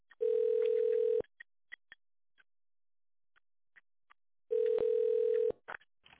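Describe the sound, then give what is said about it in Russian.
A telephone ringback tone heard while waiting for the administrator on a call to Medliga, an official supplier of professional medical equipment: two long, steady mid-pitched beeps, each about a second, separated by a pause of a few seconds, with faint clicks in between and no talking. “Если вы знаете внутренний номер сотрудника, наберите его в тоновом режиме или дождитесь ответа администратора.”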